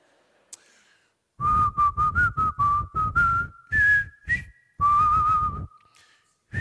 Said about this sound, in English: Oh, so excited. Very hard to whistle when I'm smiling.